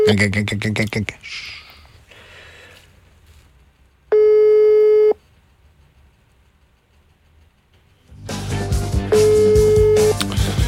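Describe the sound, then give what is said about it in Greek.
A steady electronic mobile phone call-connecting tone sounds loudly for about a second, then returns briefly inside a burst of harsh, distorted noise, with muffled rumbling and clatter around it. “Ζορίζεται το κινητάκι.”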